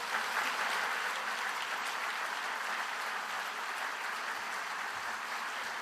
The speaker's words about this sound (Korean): 여러분 박옥수 목사님을 큰 박수로 맞아주시기 바랍니다.